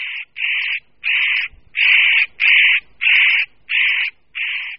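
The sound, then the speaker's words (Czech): A male spotted nutcracker, a forest bird, repeatedly gives a loud, harsh warning call in its nesting territory: about eight evenly spaced bursts, each a grating, insistent note with short gaps between. “Pro ornitologa to znamená, že se ocitl přímo v jeho hnízdním okrsku, který samec bedlivě střeží a varovným pokřikem upozorňuje partnerku na případné nebezpečí.”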